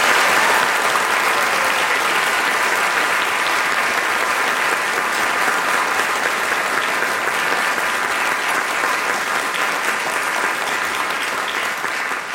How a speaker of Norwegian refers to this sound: Gi en stor applaus til Kolbjørn.